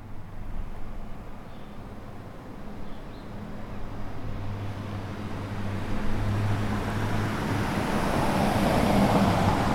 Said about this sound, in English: And now one more test of the stereo spread of the Zoom H4n in comparison with the Edirol R09HR. A car going by down my street, first recorded on the Edirol and then on the Zoom H4n.